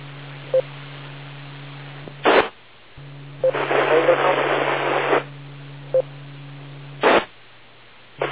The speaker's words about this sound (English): Okay, was there another station way out there? I got nothing but static.